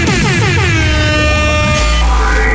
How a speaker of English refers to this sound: did you bring in the klaxon this week?